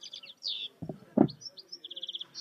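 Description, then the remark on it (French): A European goldfinch sings a bright, tinkling twitter of quick chirps that runs into a rapid, even trill, with a couple of dull low thumps partway through and no talking. “Alors ça, c'est le chardonneret élégant.”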